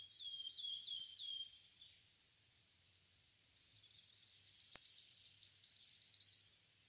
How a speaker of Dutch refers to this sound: Ondertussen hoor je allerlei verschillende vrolijke vogelgeluidjes. Luister nog maar eventjes naar ze.